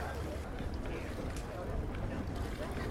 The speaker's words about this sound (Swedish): Här plaskar det och linorna rasslar. Och det är spänning i luften. Snart går starten. Här är det en båt som ger sig iväg från sin natthamn.